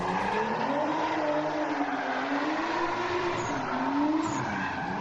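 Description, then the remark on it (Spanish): A car spins donuts in Escacena del Campo, Huelva, while its driver breaks lockdown, with a continuous tire squeal and roaring engine, the pitch wavering up and down as it circles, loud and sustained throughout with no voices. “La Guardia Civil detiene a un flipao, que se salta el confinamiento para hacer trompos con su coche.”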